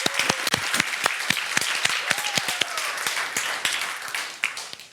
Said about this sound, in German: kommt mal nach oben und ein riesen Applaus für euch. Juhu!